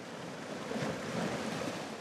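Steady rush of waves breaking against the shore, a broad continuous wash of surf with gentle swells in intensity, moderately loud, with a hint of wind and no voices.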